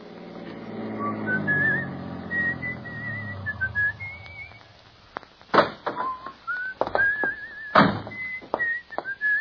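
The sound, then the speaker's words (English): A man whistles a light, cheerful melody in clear wavering notes as he stops at a tavern on the outskirts of Smithville, accompanied by a low murmur early on, then several sharp thumps and knocks punctuate the tune as it continues. “In fact, he whistles a pleasant tune as, on the outskirts of Smithville, he stops at a tavern.”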